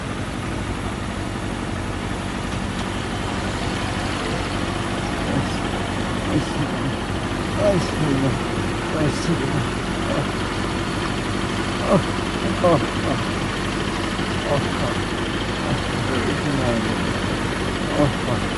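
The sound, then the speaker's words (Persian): A motorcycle engine idles steadily with a constant low rumble throughout, while faint voices murmur intermittently in the background. “چهارشنبه شب پام بیشتر درد میگیره به خاطر همین موتوره، به خاطر همین موتوره.”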